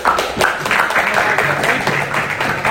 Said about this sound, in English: I'm not sure why I get a clap for that.